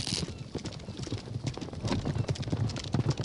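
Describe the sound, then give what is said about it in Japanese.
Horse hooves clip-clop in a steady, fairly quick rhythm, moderately loud with a busy background behind them, as a horse approaches. “そんなローボートで馬に勝てんの？”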